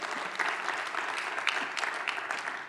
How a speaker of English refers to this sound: Yes, you can clap about that because that's good news.